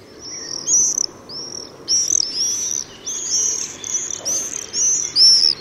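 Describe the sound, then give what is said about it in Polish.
Shrill, high-pitched screaming whistles of common swifts come in a rapid series of short bursts, several overlapping calls repeating every half second or so against a faint background hiss. “śmigające nad dachami miast jeżyki często mylnie brane są za jaskółki.”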